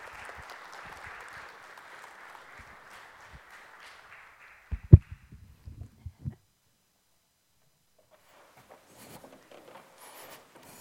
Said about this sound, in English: Please give her a round of applause as she makes her way.